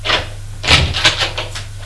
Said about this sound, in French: Daniel ouvre une porte.